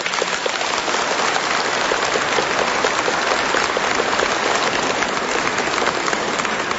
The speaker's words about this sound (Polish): cieszę się, że to oklaski dla tej młodzieży i z Opoczna, bardzo proszę.